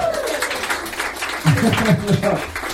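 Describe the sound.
An audience claps in a steady, dense patter throughout, and a voice speaks over the clapping partway through.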